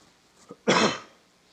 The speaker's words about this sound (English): Sorry for coughing at you.